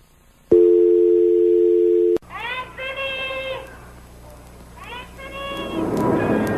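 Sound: telephone dial tone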